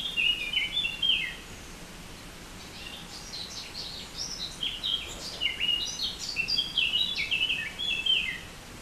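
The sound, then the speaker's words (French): Several birds sing bright, high chirping phrases in repeated bursts by a river, over the steady, soft rushing of the flowing river water, with no voices present. “nous vous suggérons d'écouter ce reportage allongé, au calme, car le chant des oiseaux et les bruits d'une rivière, ça peut en fait être très violent.”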